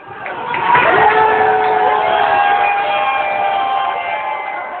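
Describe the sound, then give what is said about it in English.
A roaring crowd in a bar in Cambridge cheers and shouts together while watching the USA–Iran men's World Cup soccer match, loud and sustained, with whoops and overlapping voices swelling early and holding steady throughout. “Sound there from USA-Iran match as watched at the Phoenix Landing Bar in Cambridge.”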